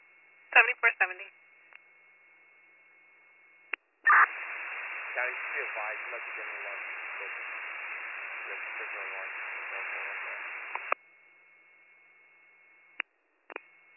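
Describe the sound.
A weak, garbled transmission from unit 74-70's portable two-way radio, its signal too low: muffled, narrow-band voice buried under steady hiss for several seconds, bracketed by squelch bursts and sharp clicks, with a faint steady tone throughout.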